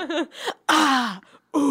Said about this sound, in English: And now we're hearing low-toned breathing.